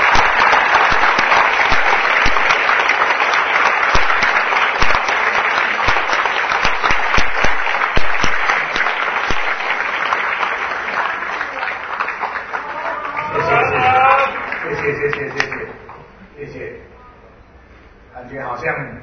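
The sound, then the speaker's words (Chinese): A large crowd in Taichung claps loudly and steadily for several seconds, welcoming Legislative Yuan Deputy Speaker and Taichung mayoral candidate Tsai Chi-chang onto the stage, a dense roar of applause that gradually thins as a voice starts speaking over the fading clapping. “现在是不是我们邀请现场所有的台中的好朋友用最热烈的掌声欢迎我们立法院副院长同时也是台中市长候选人蔡其昌先生上台，欢迎您。”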